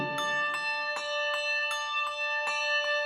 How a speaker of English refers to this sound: Ding dong. When the bells of Saint Bartholomew ring out on Christmas Day. Ding dong.